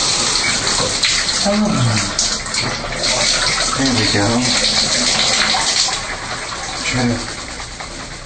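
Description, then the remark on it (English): Shower water runs steadily as a loud, constant hiss, filling the whole recording while a person speaks briefly over the spray. “So, let's turn on some water.”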